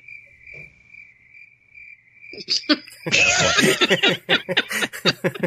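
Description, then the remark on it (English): A steady, high-pitched cricket chirp trills alone for a couple of seconds, then bursts of loud laughter break in and continue over it. “I like the crickets.”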